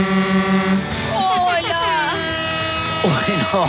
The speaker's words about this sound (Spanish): No. Se metió un reggaetonero entre los camiones. Qué pena. ¿Qué pasó? Va pitando un, sí, un reggaetonero ahí, va en el trancón. Es un DJ.